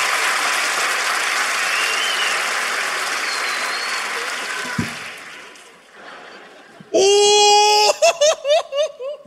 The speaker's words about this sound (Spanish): Chao, un fuerte aplauso para mi amiga.